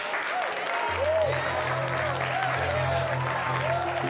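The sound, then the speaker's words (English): Steady applause from a group of students fills the scene as two of them hug, a dense wash of clapping that stays even and sustained, with a low musical tone and faint voices underneath. “As the students around them applaud, True and Eddie smile and share a hug.”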